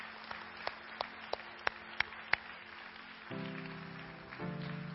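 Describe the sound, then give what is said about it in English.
An audience claps in a steady rhythm for people coming forward to be baptized, sharp evenly spaced claps over a wash of crowd noise, before sustained organ or keyboard chords come in near the end. “And y'all give them a hand. Y'all clap it up.”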